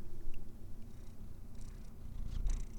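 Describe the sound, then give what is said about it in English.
A domestic cat purrs steadily, a low rumbling drone with a pulsing rhythm that swells slightly louder toward the end, with no talking over it. “And we have the non-talking cat today. Oh, now you're gonna say meow?”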